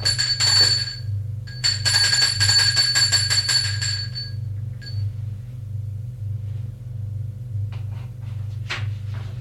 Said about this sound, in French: Il va sonner à la porte de droite.